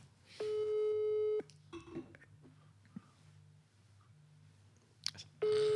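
An outgoing phone call's ringback tone: two steady, mid-pitched electronic tones about a second long each, separated by a pause with faint rustling and a soft click.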